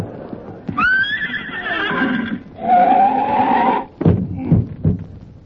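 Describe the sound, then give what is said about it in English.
A horse gives two long, loud, shrill whinnies, followed by a few heavy hoof clops spaced out at the end. “Come on, horse, boy!”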